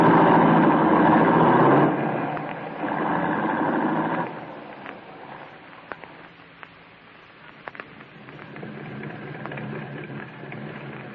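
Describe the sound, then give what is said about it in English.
A car engine runs as the vehicle drives, a loud, steady rumble for about four seconds before easing into a quieter hum broken by a few faint clicks. No one speaks. “I called a car and here I am.”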